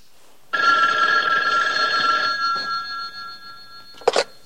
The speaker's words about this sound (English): Dave's taking his jacket off when the phone rings again.